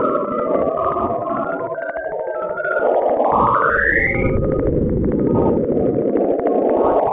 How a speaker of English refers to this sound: First of all, here, let's just throw one of these wacky space sounds out. This is Saturn radio waves. Give a listen.